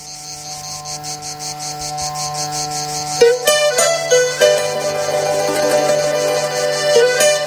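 Crickets chirp in a steady, rapid high-pitched pulse over a sustained musical drone, and brighter instruments join about halfway through while the chirping continues throughout.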